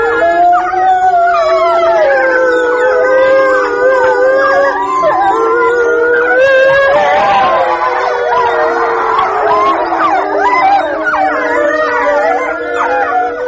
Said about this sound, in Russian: Это конкретная пара, которая была записана, 4 взрослых животных и 4 детеныша в новосибирском зоопарке, они практически всегда выли после закрытия зоопарка